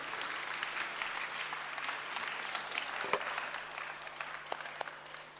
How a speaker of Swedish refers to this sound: Stor applåd.